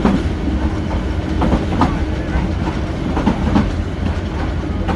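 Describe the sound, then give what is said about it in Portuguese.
A passenger train travelling from Mandalay to Sipó on a 15-hour journey rumbles steadily along the tracks, with a continuous low roar and faint rhythmic clacks of wheels over rail joints. “Neste comboio passei 15 horas para chegar a Sipó, vindo de Mandalay.”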